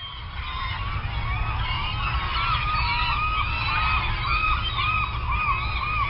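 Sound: seagulls calling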